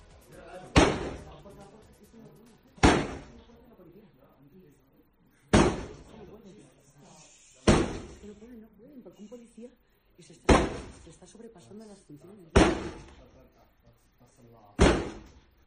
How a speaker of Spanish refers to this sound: 1:10, calle La Gasca en Madrid. La policía acude para actuar contra una fiesta ilegal en Madrid. Ahora te cuento lo que sucedió. En la casa no les abren la puerta. Y la policía termina, pues lógicamente, abriéndola a la fuerza.